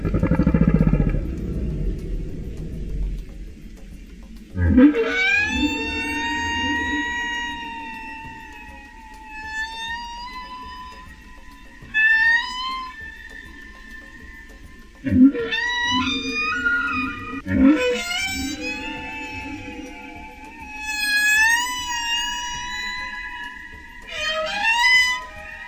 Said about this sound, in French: La bonne réponse est baleine.